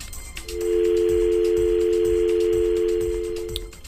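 A steady, unbroken telephone dial tone hums loudly for about three seconds as a radio phone-in call fails to connect, with no one picking up or speaking, just faint low thumps and line noise underneath.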